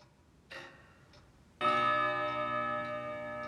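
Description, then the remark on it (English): A clock in Scrooge's bedchamber chimes one o'clock: a soft, brief note, then a single loud, resonant strike that rings out and lingers, sustained and bright, with no voices present. “1 o'clock? And nothing else?”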